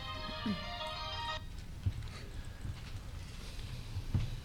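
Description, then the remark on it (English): A mobile phone ringtone chimes brightly for just over a second during a trustees' meeting, then cuts off abruptly, leaving a background of faint shuffling and a few soft knocks. “We will then call follow the orders of the day, which is our agenda, and I'm sorry, but I forgot to turn my phone off.”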